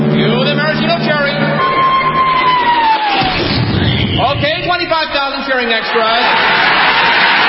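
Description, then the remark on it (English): A huge crowd of 25,000 extras roars and cheers loudly without pause as a 10-ton maraschino cherry is dropped into whipped cream. Many voices blend into a dense, sustained din, with a whistle-like tone gliding downward partway through. “Then the Royal Canadian Air Force will fly overhead towing a 10-ton maraschino cherry, which will be dropped into the whipped cream to the cheering of 25,000 extras.”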